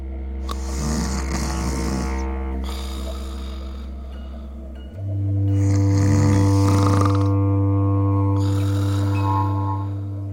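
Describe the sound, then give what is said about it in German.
Loud, rasping snoring: a deep, rumbling drone runs throughout, with harsh sawing snores at regular intervals, about three in all. No one speaks. “Wie entsteht es eigentlich, dieses sägende, röchelnde, für Mitschläfer nervtötende Geräusch?”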